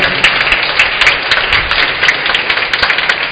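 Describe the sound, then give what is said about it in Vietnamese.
Sustained applause from a large crowd of the Vĩnh Hòa parish community before Mass, many hands clapping steadily and densely with no talking over it. “Xin mọi người chúc mừng một tràng vỗ tay trước khi chúng ta bước vào thánh lễ.”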